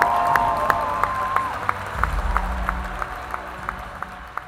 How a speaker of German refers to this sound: Ein großer Applaus, bis er auf der Bühne ist